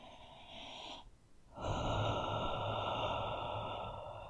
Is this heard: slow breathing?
yes